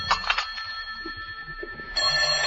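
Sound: telephone ringing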